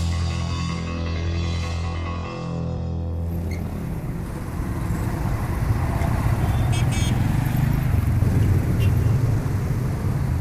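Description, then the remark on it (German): Dense city traffic around Syntagma Square roars steadily, opening with the droning hum of a small motor engine before a thick wash of taxis, old buses, limousines, overloaded three-wheeled scrap transporters and Vespas jostling on six lanes swells and fills everything. “Taxis und alte Busse, Limousinen und überladene dreirädrige Schrotttransporter kämpfen auf 6 Spuren um jeden Meter.”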